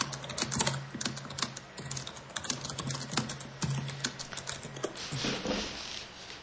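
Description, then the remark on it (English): Rapid, irregular clicking of keys on a computer keyboard, steady typing with a faint low hum in the background and no voices. “What are you typing? I was typing the one turd.”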